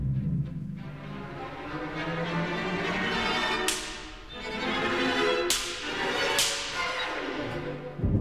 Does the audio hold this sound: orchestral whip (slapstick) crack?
yes